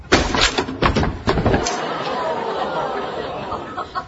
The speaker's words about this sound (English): Okay, I'll break it down. Okay, I'm doing it. It's breaking down the door.